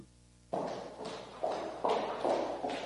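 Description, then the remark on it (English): After a brief quiet start, steady footsteps of someone walking down a street behind the listener begin, each hard step landing in an even rhythm and growing slightly louder as they draw nearer, with no voices present. “Imagine walking down the street and hearing footsteps behind you.”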